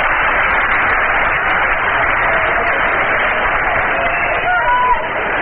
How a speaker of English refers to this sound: Stone's getting a hand from the Shea Stadium crowd.